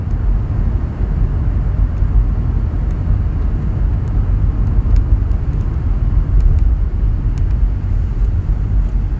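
A steady, loud low-frequency rumble of a car driving through road traffic, with continuous engine and road noise and faint brief ticks overhead, no voices.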